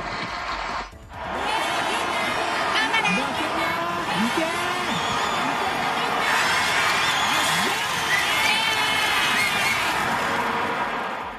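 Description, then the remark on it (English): A dense, continuous roar of a large crowd cheering and clapping in a stadium, sent remotely by viewers at home through an app and played over the stadium's speakers, loud and sustained after a brief dip near the start, with shouts and whistles rising through the din. “When watching TV or a stream online, viewers can tap to send applause, cheers, jeers, claps, and so on to the venue for different situations, such as for goals.”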